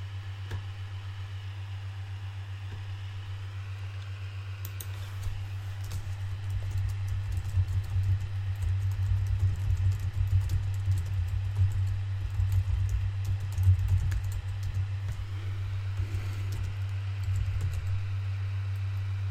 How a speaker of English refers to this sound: Hang on, typing something.